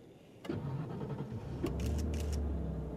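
A Nissan Almira car engine cranks and catches with a sharp burst, then settles into a steady low rumble as the car revs and begins to pull away, heading east on Enway Road at 6 p.m., with no talking.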